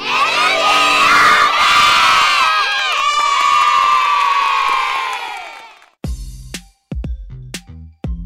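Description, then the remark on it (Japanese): A lively crowd of children shouting and cheering outdoors on the ski slope of the Tocho Family Ski Area for several seconds, many overlapping high voices, then the noise cuts off and a few short voice fragments follow. “さて、今子どもたちが楽しんでいるゲレンデから、ゲレンデの脇にあります食堂へ場所を移しました。”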